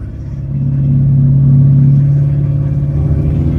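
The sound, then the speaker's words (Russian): A car engine's deep exhaust rumble, loud, holding a steady low drone that swells slightly before settling, with no voices over it. “Нет, а что это за звук выхлопа такой?”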